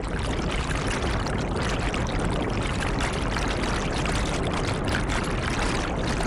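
A motorboat moves across the water, its steady engine drone mixed with constant rushing and splashing water, loud and close throughout, with no voices.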